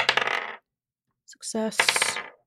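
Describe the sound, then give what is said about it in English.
Dice clatter and tumble across a hard surface in two fairly loud bursts separated by a brief silence, with a short bright rattle as the second roll begins. “Let's do rolls for each of them.”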